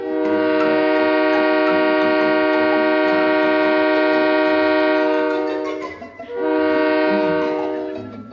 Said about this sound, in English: Inside the cab sits our trusted engineer with his steady hand on the throttle. How about a pull of that whistle, Mr. Engineer?